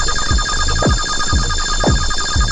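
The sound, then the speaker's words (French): A loud electronic alarm signal, set off by a detection to warn of danger, rings continuously, with steady high-pitched tones and repeated sweeping pulses roughly every half second. No voices are present. “Ça peut être un signal sonore, c'est la production d'une détection.”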